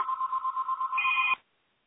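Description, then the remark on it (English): A telephone rings with a warbling electronic tone that pulses rapidly, a higher note joining near the end, then it cuts off abruptly after about a second and a half. No one speaks. “Sorry, my Hello? Phone started.”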